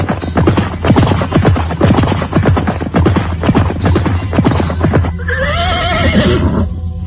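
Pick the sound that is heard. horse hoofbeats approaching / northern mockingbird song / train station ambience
horse hoofbeats approaching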